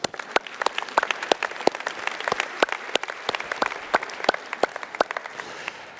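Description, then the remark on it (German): A studio audience at a live broadcast applauds itself, steadily, with dense clapping and sharp individual claps standing out, moderately loud and continuous throughout, with no talking over it. “Herzlichen Dank, ihr dürft euch mal selber klatschen.”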